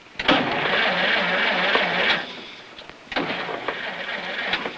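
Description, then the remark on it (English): A car engine runs with a rough, pulsing hum, then cuts out abruptly as the car runs out of gas and stops. After a short lull it briefly sputters back amid a few clicks and knocks. “The car stops.”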